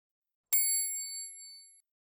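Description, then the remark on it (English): A bicycle bell on Mum's bike gives one bright, high-pitched metallic ding that rings out and fades over about a second, with no voices. “Mum's bike is quicker. Ting, a ling.”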